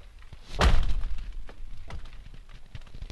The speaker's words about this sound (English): The lake drums, which is this incredibly loud, booming drum sound.